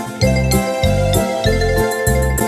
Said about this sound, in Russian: Колокольчик маленький деток веселит. Дин-дин-дин, дин-дин-дин, деток веселит.